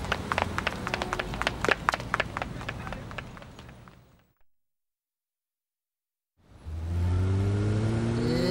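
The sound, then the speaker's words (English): A car engine roars up and accelerates steadily, its pitch climbing as it drives off. It follows a busy stretch of clattering, knocking noises and a few seconds of silence. “Come on, let's follow the car.”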